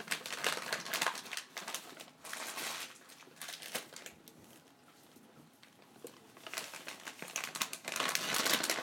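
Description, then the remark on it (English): Crinkling of a resealable plastic bag of moist-type dog treats, a dense run of crisp, papery rustles that swell in loud bursts, dip quieter in the middle, then build again; no voices. “They're like the moist type of treats that are in a resealable bag, but they're quite hard.”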